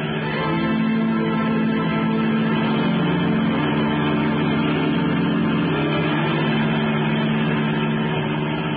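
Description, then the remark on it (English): A taxi's engine roars steadily, holding a strong, sustained drive with a dense low rumble and road noise as it speeds through traffic without pause, following a doctor's car. “Okay, lady, but this is going to be one fast ride.”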